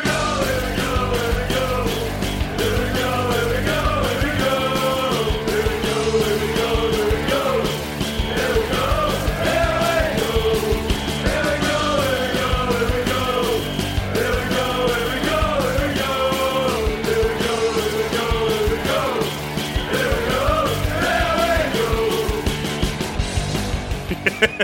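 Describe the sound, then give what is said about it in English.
A man yells loudly and almost nonstop for about twenty-five seconds, his strained voice rising and falling in pitch over a dense, noisy background. “I can hear him yelling.”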